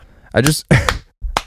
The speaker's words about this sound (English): You don't have to clap.